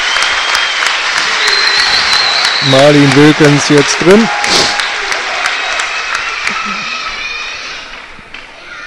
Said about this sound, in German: Jetzt gibt es die erste Auswechslung auf Seiten von Arminia Bielefeld. Annabelle Jäger wird rausgehen und für sie wird reinkommen Marlene Wilkens. Ja, schönen Applaus für Anna der Jäger.